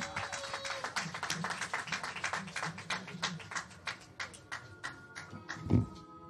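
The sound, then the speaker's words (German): An audience claps steadily for several seconds, a dense patter of hands at moderate loudness, with a faint tonal hum in the background and a brief louder thump near the end. “Gebt mir nochmal einen ganz herzlichen Applaus”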